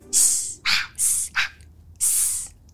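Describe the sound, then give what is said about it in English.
A voice imitates an audience member hissing in disapproval at an actor performing Othello on stage: five sharp, airy bursts of varying length in an uneven rhythm, some bright and sibilant, others breathier and more like a 'shh', with no talking. “You know, when someone in the crowd literally gets up and hisses.”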